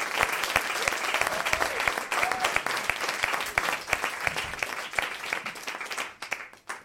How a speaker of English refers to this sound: Please put your hands together, take them apart again, put them together, and make a clapping noise for your final act of The Best of Spark